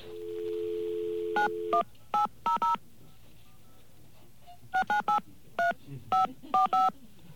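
A touch-tone phone dials the number of the American Broadcasting Company: a steady dial tone gives way to two bursts of short, crisp keypad beeps separated by a pause, clear with no talking.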